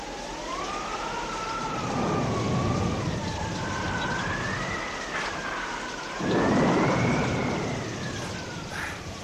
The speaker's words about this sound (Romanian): Ce vreme! Nu era de ajuns ploaia asta măruntă care ține de 3 zile. Mai trebuia și vânt.